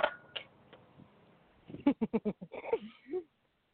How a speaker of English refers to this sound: I was really hoping like the drop of them keys was the song playing.